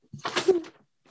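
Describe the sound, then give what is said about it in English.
A door swings shut with a short, scraping thud and a brief creak, lasting well under a second before it goes quiet. “All right, I'm gonna shut the door.”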